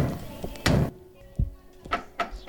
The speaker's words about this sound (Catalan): L'Elia va donar moltes puntades de peu a la porta